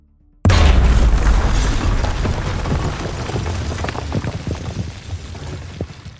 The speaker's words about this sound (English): Before Miguel could respond angrily, a loud explosion shook the walls of his sanctuary. The sound reverberated through the room, and the screen flickered.